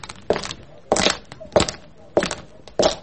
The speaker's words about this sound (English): You've forgotten to stop your footsteps